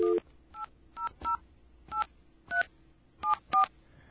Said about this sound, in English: I want to demonstrate this. If you ever call the 1-800 Verizon number, let's get a dial tone.